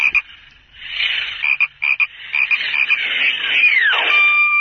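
An electronic skateboarding-frog croak sound effect from a toy sound book, a rapid series of buzzy croaks with a rising whir and a falling electronic sweep at the end, loud with no talking.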